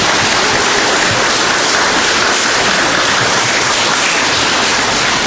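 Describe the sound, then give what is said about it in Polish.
A crowd applauds wishes given to the families of a parish, a dense, even wash of many hands clapping at once that holds at a loud level for about five seconds with no voices on top. “Myślę, że oklaski się należą za takie piękne życzenia dla was.”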